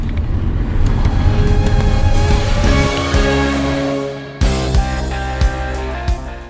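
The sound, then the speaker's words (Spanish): The engine of a used Golf car revs hard while driving on a road, climbing in pitch, dropping briefly as the gear changes, then pulling up again, loud with no talking. “A ver si tiene el coche... ¿Eso es buena señal? Hombre, claro. Potencia de sobra, macho. Que tiene potencia.”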